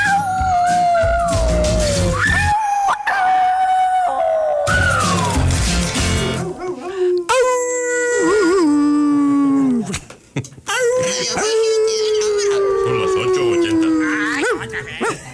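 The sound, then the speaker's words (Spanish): A wolf howls loudly in long, wavering, rising-and-falling cries, one after another, broken by a few short, harsh bark-like bursts. “Bueno, invita, sí, no, un lobo que ladra, ¿no?”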